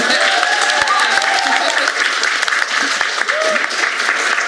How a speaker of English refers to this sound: Thank you so much to my remarkable panel of ridiculously talented creatives. This is where you applaud them, please.